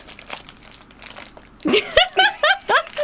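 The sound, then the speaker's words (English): Crisp crunching of someone chewing a crunchy chocolate Hobnob biscuit near a microphone, quiet and textured at first, then louder bursts with voiced, laugh-like sounds in quick rhythmic succession. “I'm really concerned that everyone can hear me chewing.”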